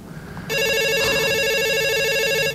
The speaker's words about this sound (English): Is that a phone I hear? Whoa! Forward Nation Radio with our new technology. We have a phone-in caller, presumably from our live streamers.